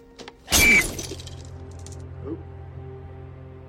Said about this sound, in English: stares at his reflection in the mirror, and breaks the glass with his head.